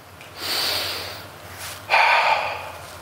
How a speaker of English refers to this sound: What was that? That was a breath. I did it.